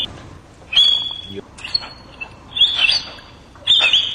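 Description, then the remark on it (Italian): An orangutan at Heidelberg Zoo in Germany, which is learning to whistle, whistles in a series of four short, high-pitched bursts, some steady and some wavering, separated by brief pauses, with faint background noise and no talking. “Ecco, questo qui è un orangutan che fischia, sta imparando a fischiare ed è allo zoo di Heidelberg in Germania.”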